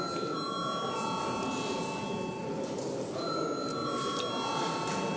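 An electric bell rings in a parliament chamber before a vote, a steady, sustained tone broken by a brief pause midway, over a murmur of background chatter.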